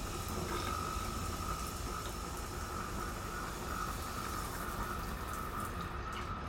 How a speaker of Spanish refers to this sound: Es el momento de disfrutar de una ducha matutina bien caliente y de poner un poco en orden esos pelos rebeldes frente al lavabo del compartimento.